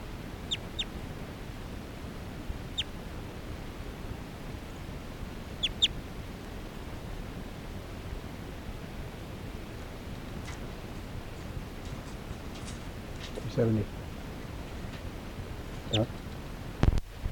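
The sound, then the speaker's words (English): A bird, logged as bird 370 in a field recording started at 5:51 p.m., calls sporadically over a steady hiss: a few thin, high chirps early on, then a harsher, buzzy call with layered tones and a couple of short notes near the end. “This is bird 370 again.”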